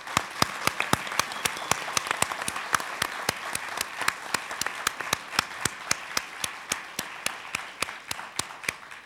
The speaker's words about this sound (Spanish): Y pido, ya que estamos, un fuerte aplauso para toda la gente que está en la mesa.